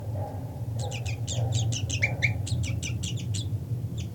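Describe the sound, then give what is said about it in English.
A rapid series of sharp, high-pitched bird alarm calls repeats in quick bursts over a steady low rumble, with a brief pause near the end before a couple more calls. “Okay, alarm calls by 3-3.”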